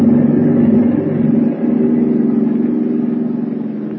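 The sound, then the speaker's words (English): Heavy submarine motors drone steadily at full speed ahead as the submarine rises toward the surface, a loud, continuous low mechanical hum with a faint rhythmic throb and no voices over it. “Start the motors. Hurry. Engine room. Full speed ahead.”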